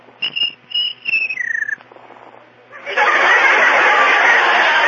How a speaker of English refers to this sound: Well, sounds like he's on this side of the room. No. No, sounds like he's on the other side of the room. No, I can't find him. Oh, shut up! George, be friendly. Ask him nicely. Please, Mr. Cricket, George has work to do. Won't you please be quiet?